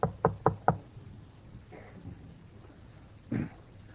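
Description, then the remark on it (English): Four quick, sharp knocks rap on a wooden door in a fast even rhythm, followed by near silence with a faint low rumble and one soft muffled thump. “I had a knock on the door one Thursday.”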